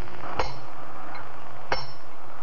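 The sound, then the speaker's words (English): Two sharp metallic hammer blows on steel pitons being driven into the rock wall of the Diamond face by a climber, spaced over a second apart, each giving a bright clinking ring that fades quickly. No voices. “Can you imagine what two men in such a situation would be talking about while one of them hammers life-giving steel pitons into the rock wall of the diamond face?”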